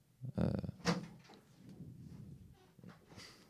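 A door to a dark studio is wrenched open with a sharp clatter and rattle, two quick loud bursts, followed by a low muffled rumble and faint movement.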